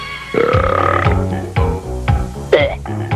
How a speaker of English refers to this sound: Something constructive, of course. Like practicing burping.